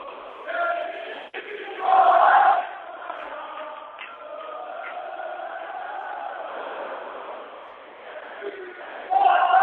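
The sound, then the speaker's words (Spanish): A packed German beer hall in Munich, full of Spanish Real Madrid football fans before a match at ten to two in the afternoon, roars with overlapping voices and chanting, swelling into louder bursts of shouting near the start and again at the end, a constant dense crowd din throughout. “Esto es una cervecería alemana llena de españoles, tremendo, escucha.”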